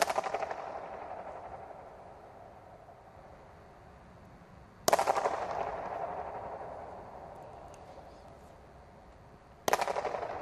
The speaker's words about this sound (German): aber am extremsten ein Shatterhall, sage ich jetzt einmal, ein Shatter-Echo irgendwie darstellt, das man einfach, wenn man nur mit zwei, in dem Fall habe ich glaube ich mit zwei Schlapfen zusammengeschlagen.